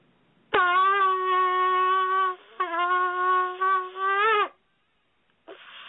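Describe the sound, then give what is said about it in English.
A shofar (ram's horn) is blown, giving a long, loud, brassy blast with a rich stack of harmonics. It wavers slightly, breaks briefly, then resumes before cutting off, and a short, faint tone follows. “This is one of the sounds of the shofar.”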